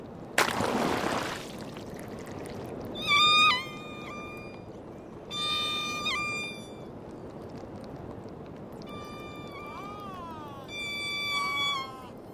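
Underwater recording made by the hydrophone in a D-tag on a diving whale, capturing what the whale hears: a brief burst of rushing noise, then four bursts of high, harmonic squealing calls, some sliding downward in pitch, over a steady low underwater hiss.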